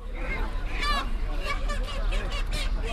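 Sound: chickens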